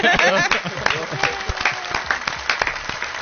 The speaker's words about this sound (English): And I would like to give them a hand of a round of applause for the hard work that okay, one of us would love to.